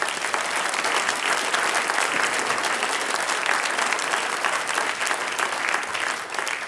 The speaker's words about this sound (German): Ein wunderbares Gedicht, das die Kärntner mit gebracht haben. Schenken wir den Chorherrn aus Klagenfurt auch nochmal einen kräftigen Applaus.